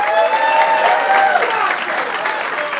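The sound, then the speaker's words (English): A live show audience bursts into steady, loud applause with cheers and whoops mixed in as a host is introduced, a dense wash of clapping that holds strong for a few seconds. “Please make some noise for Joe Stapleton.”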